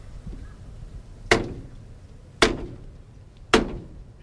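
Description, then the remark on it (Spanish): Three heavy, sharp knocks strike a church door at a slow, even pace as the Hermandad de la Soledad procession, led by its cruz de guía, returns to its church, each knock ringing out briefly over a low, steady background murmur. “llega la cruz de guía, se van a escuchar los tres golpes en la puerta.”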